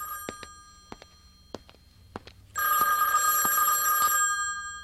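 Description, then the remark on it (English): An old-style telephone bell rings loudly and continuously, jangling for the last couple of seconds after several sharp taps and knocks in an otherwise quiet setting. “Oh, we need to have a little talk after I get the phone.”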